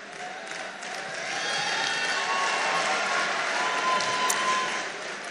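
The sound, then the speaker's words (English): An audience claps steadily for several seconds, a dense crackling wash of many hands that swells slightly after the first second and then holds at an even level with no voice on top. “You better listen before you start clapping.”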